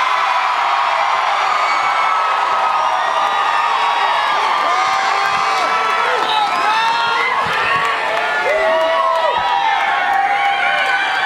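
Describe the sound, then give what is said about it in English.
A huge stadium crowd roars and cheers continuously, a dense wall of shouting with high whoops and screams rising over it, staying loud and steady throughout with no break. “And that roar that I heard then is nothing compared to this roar right here.”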